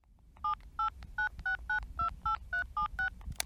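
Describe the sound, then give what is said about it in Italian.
A rapid sequence of about ten telephone keypad tones as a number is dialed, each a short clear beep pressed in a steady rhythm, fairly loud over faint background hiss. “Il cognato di Harald parla al telefono con la propria madre.”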